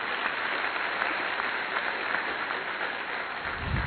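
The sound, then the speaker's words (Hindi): Steady audience applause at a stage event, a dense wash of many hands clapping at a fairly even level throughout, with no speech over it. “तालियां बहुत कम हैं।”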